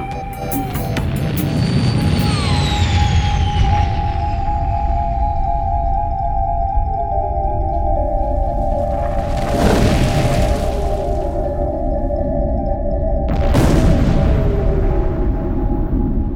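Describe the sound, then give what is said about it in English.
A spaceship's main engine explodes: a heavy, continuous rumble with steady humming tones and falling metallic whines, broken by two loud, harsh bursts of blast noise, with no voices. “What you just heard was a main engine vaporizing itself and anyone near it”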